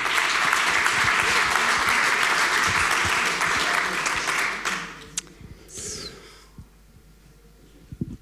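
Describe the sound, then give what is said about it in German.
An audience at a Fail Forward event claps steadily for the next speaker, Marco Worms, programme head at Donau 3 FM, in a dense, loud wash of applause for about four seconds, then it thins out and fades to a few scattered claps and low murmuring. “Bitte ein herzlicher Applaus für Marco Worms, Programmleiter bei Donau 3 FM.”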